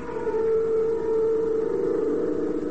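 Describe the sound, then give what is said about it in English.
A spaceship's star drive engaging as Buzz cuts in the star drive: a loud, steady siren-like drone holding one mid-pitched tone over a churning low rumble, sustained without a break and with no voices. “A few moments later, Buzz cuts in the star drive.”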